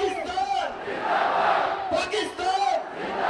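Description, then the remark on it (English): Hundreds of Pakistani spectators chant "Long live Pakistan" and shout in unison at the Wagha border crossing during the daily lowering of the flags at dusk, a dense roar of many voices rising and falling in loud rhythmic surges, sustained throughout with no individual speaker standing out. “As the crowd bellows, "Long live Pakistan," black-clad Pakistani rangers stomp closer and closer to their Indian counterparts, heels clicking.”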